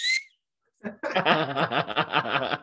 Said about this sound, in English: I got a whistle.